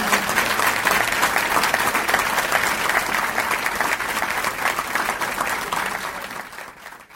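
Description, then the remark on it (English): Sustained applause from a sizable audience after a talk by B. Karp, a Holocaust survivor, at an Omaha Public Library Noon Forum lecture; a dense, steady wash of clapping that holds for several seconds before tapering off near the end. “Let's give B. Karp one more round of applause for such a great talk.”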